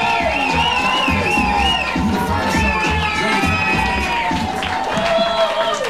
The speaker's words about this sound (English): I want to do a test. Oh, round of applause. Ready? Bring it up. Yeah, that's it.